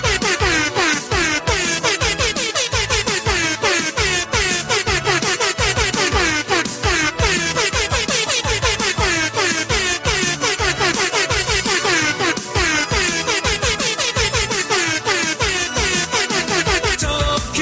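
Loud, brassy air horn blasts play a fast, catchy synth-pop melody, the honks rapid and rhythmic with shifting pitches, sustained continuously with no talking.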